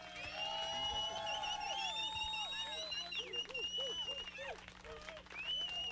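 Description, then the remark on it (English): A crowd of P1s applauds steadily for several seconds, the dense clapping mixed with loud whistles and whoops rising and falling over it. “Now that we know all of the dishes, why don't we do another round of applause from the P1s here?”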